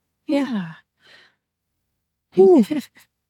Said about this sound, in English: Ooh. A lot of yawns for this one.